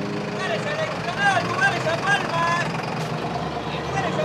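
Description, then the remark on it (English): A crowded microbus rumbles steadily through traffic flowing southeast toward a volcano, its low engine drone constant beneath a mix of muffled passenger voices talking inside. “The crowded microbus joins a river of traffic flowing southeast in the direction of the distant volcano known as La Mujer Durmiendo, the sleeping woman.”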